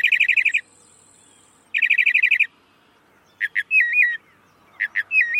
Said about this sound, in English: Mockingbirds sing all year. In the breeding season to attract mates, the rest of the year to claim feeding territories. In spring, a male mockingbird sings all day, hundreds of variations, then sings all through the night.